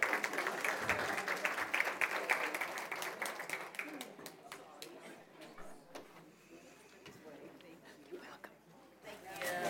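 An audience applauds with dense, crackling clapping that is strongest for the first few seconds, then thins into scattered, fading claps with a low murmur underneath.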